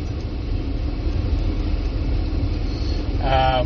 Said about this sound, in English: Sorry, I'm pausing because we're in traffic. We hate coming to Indy because there's way too many people. It's too congested.